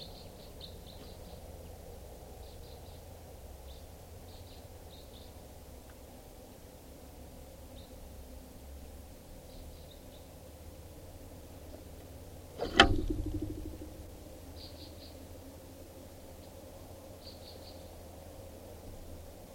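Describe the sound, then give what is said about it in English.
Crossbill type 2 flight calls from a crossbill passing at 6:57: short, sharp, high-pitched notes given singly or in brief clusters at irregular intervals, fairly faint over a steady low rumble, with one loud thump partway through. “Another crossbill, 6:57.”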